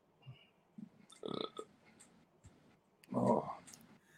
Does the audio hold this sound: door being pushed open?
no